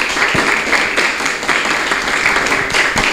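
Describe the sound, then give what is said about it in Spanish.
Sustained audience applause welcoming a female guest at a Cruceño gastronomy event in San Isidro, a dense, steady wash of many hands clapping at once, fairly loud and even throughout with no voices rising above it. “Y démosle un fuerte aplauso, por favor, de bienvenida a ella.”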